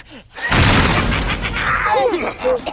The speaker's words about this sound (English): Wow, that was an expensive-looking explosion. I can't believe we had that in the budget.